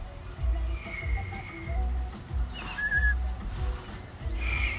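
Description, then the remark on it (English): Someone who cannot whistle blows air through pursed lips, producing mostly breathy rushing with a few faint, thin whistle tones that flicker in and out but never form a steady note. No talking. “I'm just blowing. Dude, I can't whistle.”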